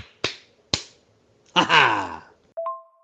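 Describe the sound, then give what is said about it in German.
Two sharp, loud slaps crack out in quick succession, followed by a springy cartoon-style boing and a short ringing ding, like comedic slapstick sound effects of a triple slap in the face, with no talking. “Zack! Boing! Ju! Peng! Triple-Ohrfeige”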